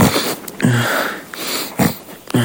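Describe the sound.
A series of short, rough snorts from a person pretending to sleep in a haunted hotel room, room 202, at night: about four nasal bursts spaced unevenly over a couple of seconds, with breathy hiss in between and no talking.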